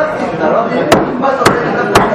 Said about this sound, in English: So, he has a neighbor who's a lawyer. So he knocks on the neighbor's door.